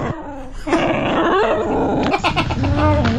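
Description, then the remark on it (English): A dog named Molly growls and grumbles in long, throaty, rising-and-falling vocalisations, fairly loud, almost like a groaning moan, with the barking edited out and no talking. “I was having a listen back and I was like, it kind of sounds like Wookiee from Star Wars if you remove like the barking bits.”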